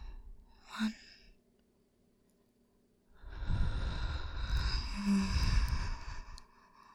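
A brief sharp intake of breath, a pause, then a long, slow, controlled exhale lasting several seconds during a breathing exercise, breathy, with no talking.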